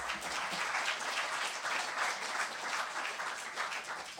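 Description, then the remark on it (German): An event audience applauds steadily to thank a sponsor who financially supported the event, a dense wash of many hands clapping at an even volume for several seconds, with no voices standing out above it. “Also auch mal einen ganz herzlichen Applaus daran.”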